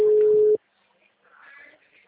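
A telephone ringing tone on a call that is not being answered: one loud, steady, low-pitched beep lasting about half a second, followed by near silence and then a faint murmuring noise.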